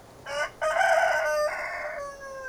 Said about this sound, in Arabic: بعدها رأوا ديكا طاعنا في السن واقفا على عمود قرب البوابة يصيح متأوها.